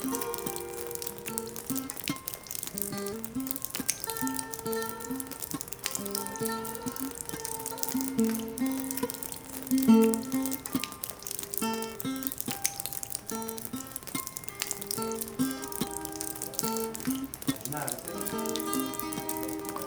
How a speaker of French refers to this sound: Non, j'aime bien le bruit de la pluie. J'aime bien les petits rythmes là.